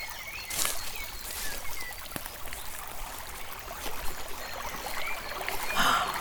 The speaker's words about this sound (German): Los mal, hörst du den Bach? Komm, wir machen dort ein Feuer.